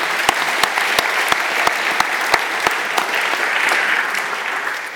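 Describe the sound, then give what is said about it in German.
An audience in Frauenfeld applauds steadily for the full five seconds, thanking a man for his decades of work for the town's health. A few sharp, evenly spaced claps stand out above the dense wash during the first half, and nobody speaks. “Ich finde, das ist ein Applaus wert, oder?”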